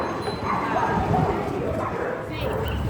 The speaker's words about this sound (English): Air hockey in Berlin, dogs in Naples,